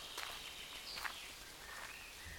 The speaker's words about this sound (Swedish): Det är tyst och stilla förutom ljudet från träden som rasslar.